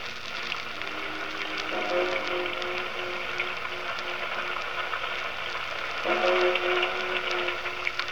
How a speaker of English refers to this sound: I say, Holmes, it's 10 o'clock now. How long do we have to stand here in this confounded rain? I'm soaked to the skin.